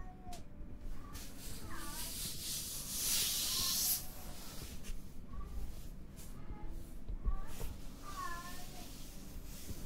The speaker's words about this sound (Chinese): 那是猫在叫，那是猫，不是小孩。